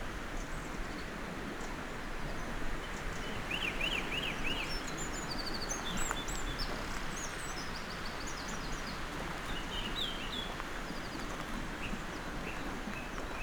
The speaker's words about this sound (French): Le chant des oiseaux, le lever du soleil. Sierra de Guara.